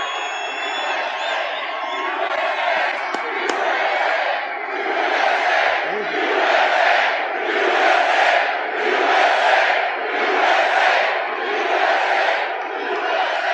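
A large crowd at a rally in Glendale, Arizona roars and cheers continuously as RFK Jr. takes the stage, with waves of chanting that rise and fall in a steady rhythm, loud and sustained throughout with no clear individual voices.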